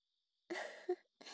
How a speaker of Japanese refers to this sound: おじさんあくびしてる。